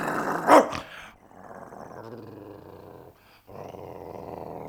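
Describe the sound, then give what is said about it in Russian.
A dog snaps with one sharp, loud snarl, then growls low and steadily in two long rumbling stretches separated by a brief pause, with no talking. “Ну и собака.”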